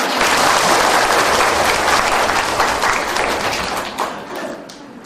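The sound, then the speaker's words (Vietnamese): An audience at a Buddhist dharma talk breaks into loud, sustained applause, a dense wash of many hands clapping that holds steady for several seconds before thinning slightly toward the end. “Xin cho anh chàng pháo tay.”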